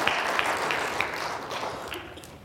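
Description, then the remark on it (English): An audience claps together in a dense, steady wash of applause, loud and sustained for a couple of seconds with sharp individual claps popping through, given as a morning clap offering to the Lord. “Let's give him a good clap offering here this morning.”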